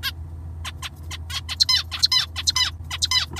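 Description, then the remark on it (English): A songbird sings a rapid series of bright, warbling notes and sharp chirps, clear, with a steady low hum underneath and no voices. “research in linguistics is ongoing into the structure of birdsong and what it might tell us about how human beings learn language and what parts of language are innate.”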